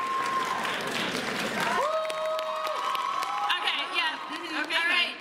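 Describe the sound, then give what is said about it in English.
An audience claps in a steady, dense burst of applause to vote for their favorite in a game, then high cheering and whooping voices rise over the continuing claps until the end. “So you need to clap for your favorite.”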